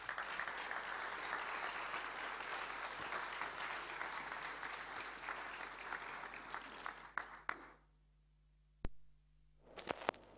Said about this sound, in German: Jetzt werden wir gleich ein wunderbares Lied zu Beginn hören und ich möchte, dass wir mal den Chor auch vielleicht mal mit einem Applaus begrüßen.